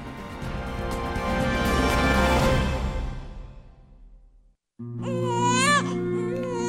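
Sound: newborn baby crying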